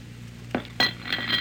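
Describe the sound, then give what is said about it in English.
A couple of sharp clinks as a plate of turkey and dressing and a glass of water are set down on a stool, followed by a brief ringing rattle against a low steady hum. “So soothe your conscience with a piece of turkey and some dressing and a glass of water, jailer. Put it on the stool.”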